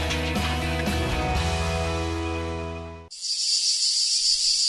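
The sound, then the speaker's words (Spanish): Music plays, then cuts off abruptly, replaced by a loud, steady, high-pitched cicada drone that continues alone and unbroken until the end. “El cant de la Chicharra, música i desfici en UPV Radio.”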